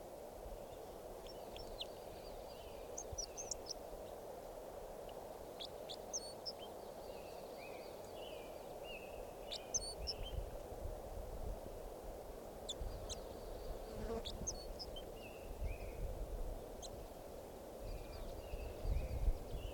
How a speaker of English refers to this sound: So recording that bird was just collected. He'll be number Red Crossbill number 547.